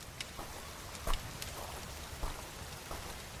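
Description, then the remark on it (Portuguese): Steady rain falls on a village on the largest of the Galápagos Islands in a soft, continuous hiss, with scattered louder drops ticking on a surface now and then. No voices, just the rain on its own. “Quando vem chuva, refresca, mas o calor que se apodera da vila no pós-tormenta é uma coisa impossível de descrever.”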